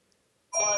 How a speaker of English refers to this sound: So my phone's ringing.